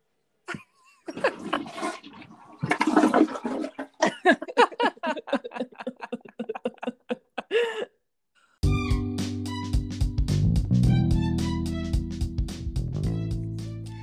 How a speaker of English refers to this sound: Hang on, I have to flush the toilet.